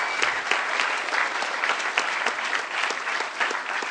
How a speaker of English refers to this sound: By the way, a big applause for the guys from ANV. They are incredible.